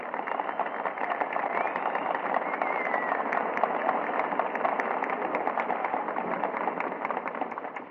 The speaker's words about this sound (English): concert stage to acknowledge the applause of this tremendous audience.